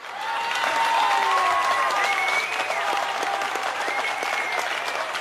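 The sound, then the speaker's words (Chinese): An audience claps steadily and loudly, cheering to God, with rising and falling cheers and whoops over the dense applause for about five seconds. “暂停一下，向神大声欢呼吧。”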